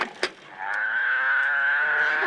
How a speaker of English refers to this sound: See that? It's a cow, jackass. Well, make up your mind. Is it a cow or is it a jackass?